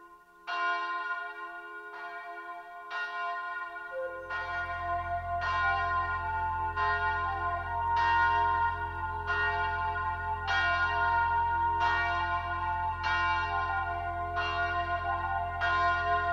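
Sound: big bell ringing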